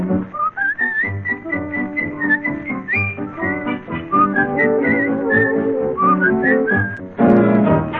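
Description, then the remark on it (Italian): A bright whistled refrain carries a cheerful tune over steady instrumental backing, the notes rising and falling in quick phrases for several seconds with no voices. “Fa il campanello mentre fischio un ritornello che accompagna i nostri cuori.”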